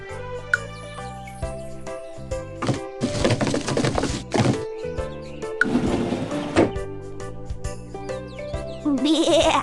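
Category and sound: animal, sheep bleating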